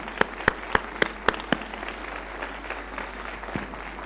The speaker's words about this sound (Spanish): Os voy a pedir que os deis un fuerte aplauso porque es un placer de verdad que estéis aquí con nosotros.